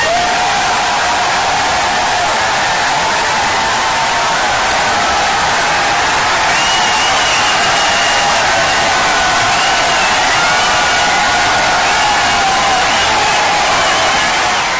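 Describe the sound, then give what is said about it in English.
A crowd of more than 4,000 people roars and cheers continuously in a giant, standing-room-only auditorium with a mezzanine, welcoming a presidential candidate: a dense, sustained wash of applause-like noise with occasional whoops and shouts rising out of it, loud and unbroken throughout. “All right, that's 4,000-something people cheering.”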